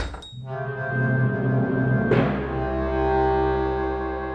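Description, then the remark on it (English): A shop door slams shut once behind people leaving, a sharp, heavy bang about halfway through, set against a steady sustained musical drone that carries on underneath before and after the impact. “But the door slammed behind them.”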